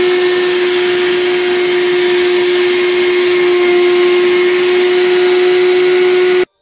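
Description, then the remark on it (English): A wet vacuum sucks up flood water from rain still coming in, about 15 gallons so far. It runs nonstop with a loud, steady motor roar and a sustained high whine, holding constant for over six seconds before cutting off abruptly. No one speaks. “One time I had to suck up like 220 gallons.”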